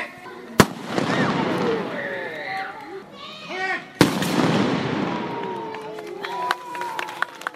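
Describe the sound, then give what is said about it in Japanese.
Two sharp, booming matchlock gunshots ring out a few seconds apart, each a sudden loud crack, fired by the Negoro matchlock corps dressed as warrior monks in a demonstration on a school sports ground, while a crowd chatters and children's voices rise and fall around them. “根頃鉄砲隊の皆さんは僧兵姿で勇ましく鉄砲を構えます。”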